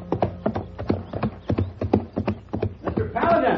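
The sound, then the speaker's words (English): A horse's hooves clip-clop at a steady walking rhythm, fairly loud, the sharp knocks repeating evenly before a rougher burst of noise at the end. “The railroad station was about a mile outside of town, and the judge had sent a horse for me to use and had left word that I should go on out to the ranch.”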